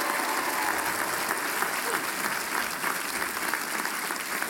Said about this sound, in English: And I'm talking about your parents and your family. What about a nice round of applause for them?